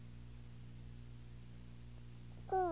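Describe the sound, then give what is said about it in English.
A steady electrical hum fills the quiet, then a single loud cat meow starts abruptly right at the end and is cut off. “Hi, guys. Hi, kitty.”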